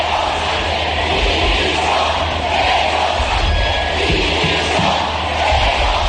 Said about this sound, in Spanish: Ensordecedor el grito de los manifestantes pidiendo la dimisión del presidente del gobierno, de los dirigentes políticos presentes y de los organizadores.